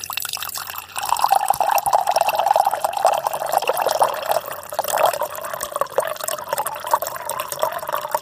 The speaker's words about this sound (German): Okay, also wir hören, da plätschert schon etwas.